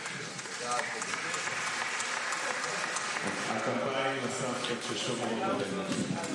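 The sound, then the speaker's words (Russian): An audience bursts into sustained applause for grandmothers who are listening, a dense steady wash of many hands clapping at once, with indistinct voices and a murmur of the crowd mixed in throughout. “Аплодисменты бабушкам, которые сейчас все это слышат.”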